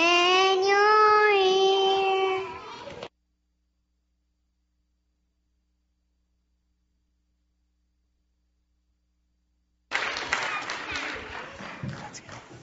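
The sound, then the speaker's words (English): Preschool children's voices hold a sung note, then a long silence, followed by a burst of audience applause for the preschoolers: dense, crackly clapping that keeps going steadily to the end. “Can we get one more round of applause for these fantastic preschoolers?”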